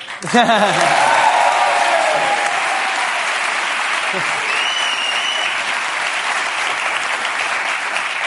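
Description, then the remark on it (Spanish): An audience breaks into sustained applause for an interviewed Olympic bronze medallist, a dense wash of clapping that holds steady for several seconds, with faint voices mixed in at the start. “Me han aplaudido la primera porque aquí la gente es de bronce para arriba, todos los que están...”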